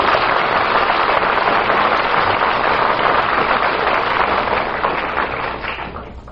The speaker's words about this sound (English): I think we ought to give Bill a nice round of applause for that.